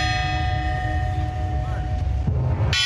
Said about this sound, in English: The bells are tolling again today at Notre Dame.